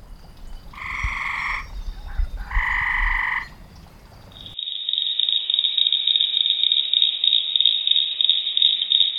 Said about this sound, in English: This week, the deep call of a bullfrog sets the stage for a blitz of mystery sounds, all related to an annual biological kind of blitz.